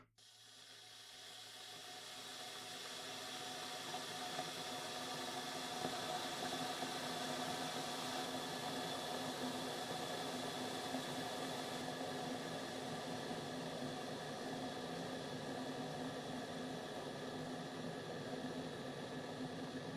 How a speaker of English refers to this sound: Of course I have an electric kettle in my room.